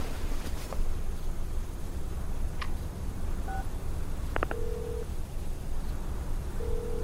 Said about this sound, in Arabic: رد على الجوال، دامك على حق، رد على الجوال.